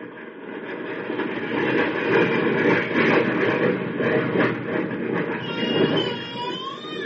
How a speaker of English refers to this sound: Shh, listen. To what? The jet roar. If they're using the short runway, the plane should go over the house.